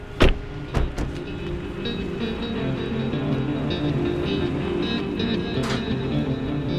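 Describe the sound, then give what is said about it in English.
A car idles with a steady low rumble while a power window moves and a few sharp clunks of a car door sound near the start and again later, as the car parks at a Florida Conservation Commission building. No one speaks. “We park and walk up to the front door.”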